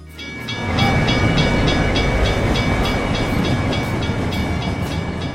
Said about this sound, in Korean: 기차가 오는 종소리가 울리면 상인들은 순식간에 길을 덮고 있는 천막과 좌판들을 치운다. 그러면 홍해 바다가 갈라지며 철로길이 나타난다. 기차가 지나가면 다시 바닷물이 메워지듯 천막이 덮이고 좌판이 깔리면서 시장이 된다.